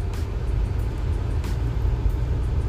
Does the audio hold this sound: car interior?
yes